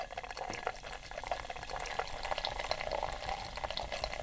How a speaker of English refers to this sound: It's only 8 in the morning. Yeah, it's Guinness. It doesn't really count. Okay, so let's do some more pouring.